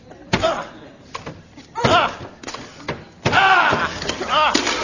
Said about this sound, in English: There's smoke coming out. Somebody's in there. Let's break down the door.